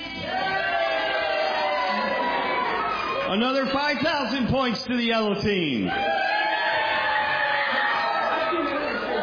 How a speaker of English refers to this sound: 50,000 points to the yellow team. 10,000 points to the yellow team for their spirit and cheering.